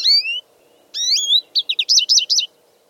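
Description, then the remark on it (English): An American goldfinch sings clearly: two bright, sweeping whistled phrases, then a quick run of about six high twittering notes, with no voices over it. “Finally, in 1951, Washington named an official bird, the American goldfinch.”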